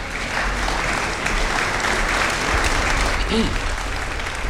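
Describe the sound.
Subdued applause from a sizable quiz show audience in the stands after a contestant's answer, a steady dense patter of clapping that holds at an even level throughout, with a brief murmur of voices mixed in near the end.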